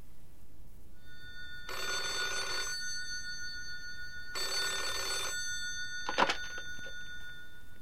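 A telephone rings in two buzzing, bell-like bursts about a second long with a pause between, followed by a brief clunk like a receiver being lifted. No one speaks.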